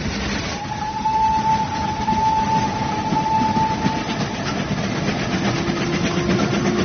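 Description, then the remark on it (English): A steam train rushes into a tunnel with a loud, steady roar. A long, high whistle-like tone sounds over the rumble before a lower droning tone takes over. No one speaks. “I say, the train's about to rush into a tunnel.”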